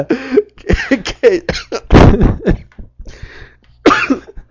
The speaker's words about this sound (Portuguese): Nossa, até tossi, desculpa aí.